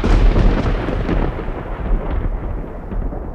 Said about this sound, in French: Qui aurait pu croire que filmer en plein orage était une si mauvaise idée? Un second coup de tonnerre éclata, beaucoup plus proche cette fois.